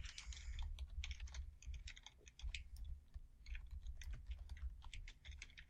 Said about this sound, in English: Both typing very vigorously.